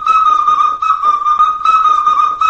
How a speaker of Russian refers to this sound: Дымково – это Слобода, где зародилась дымковская игрушка. И был праздник Свистунья, и он даже назывался Свистопляска, потому что под этот свист люди плясали.